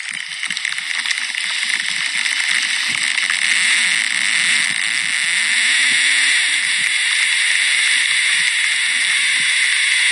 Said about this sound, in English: So he says, in short, if you're ever in a mountain and hear that sound, get down fast. So this is the sound that was recorded on a mountain as a lightning strike was about to take place. Now listen to it again.